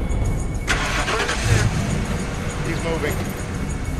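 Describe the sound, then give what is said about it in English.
A pickup truck engine catches and settles into a steady, loud rumble as the vehicle pulls away from an intersection, with muffled voices faintly mixed underneath. “As Khalil pulls away from the intersection,”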